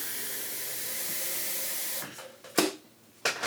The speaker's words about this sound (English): That goes on there, electric kettle, and a lot of electric things here.